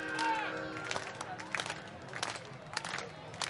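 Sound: crowd clapping along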